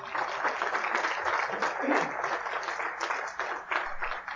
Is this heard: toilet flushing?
no